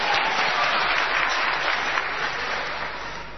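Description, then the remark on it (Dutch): Steady audience applause for the winner of a quiz, a dense crackle of many hands clapping at once, sustained at an even loud level and easing off slightly toward the end. “Applaus!”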